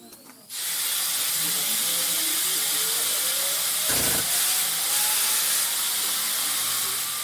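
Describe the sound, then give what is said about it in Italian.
A loud, steady blast of compressed air at 6-7 kilos of pressure hisses out after a sudden start, a broad roaring rush that holds constant for several seconds, with a faint rising whine and a brief thump partway through. “Déjà quand il sort à 6-7 kilos, attention les oreilles, voilà le bruit que ça fait.”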